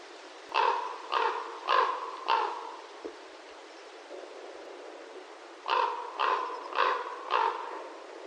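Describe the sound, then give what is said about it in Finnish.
A common raven gives metallic klonk calls, made as it rolls onto its back and back again in flight, in two bursts of four evenly spaced, resonant notes separated by a pause, clear against a soft background hiss. “ja sitten kun se tulee siihen takaisin, niin sieltä kuuluu semmoinen metallinen klonk, klonk, klonk.”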